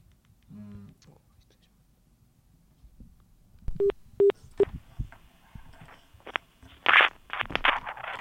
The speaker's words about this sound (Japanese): じゃあまず電話をしてみましょう。